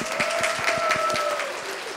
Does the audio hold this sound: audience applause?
yes